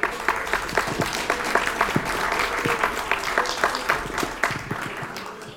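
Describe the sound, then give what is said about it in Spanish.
An audience applauds steadily for several seconds to welcome a speaker, a dense, even patter of many hands clapping at moderate loudness with no voices over it. “Recibamos a nuestro compañero con un fuerte aplauso.”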